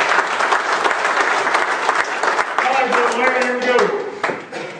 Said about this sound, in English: Give the Lord a hand of applause for God.